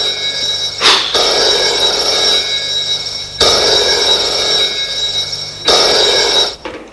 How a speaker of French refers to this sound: Le téléphone qui sonne.